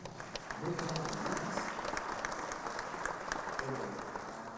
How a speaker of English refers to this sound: And I must applaud the praise and worship team. Would you applaud them?